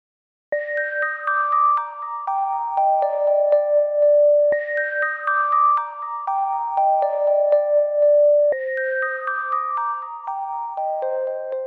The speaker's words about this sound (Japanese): クリスマスの鐘が鳴る、鐘が鳴る。私の心のひだをいっぱいに共鳴させながら、クリスマスの鐘が鳴る。